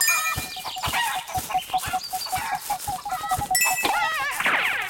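Chickens cluck in quick, busy bursts over a steady mechanical ticking and bright chiming tones, all fairly loud, with no one speaking.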